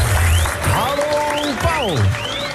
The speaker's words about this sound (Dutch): Nou, doe daar even gewoon even met applaus op.